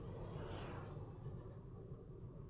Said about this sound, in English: There's like an oversized, just bunch of huge trucks going by.